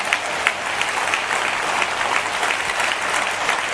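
An audience claps steadily, a dense wash of many hands forming continuous, even applause with no voices rising above it.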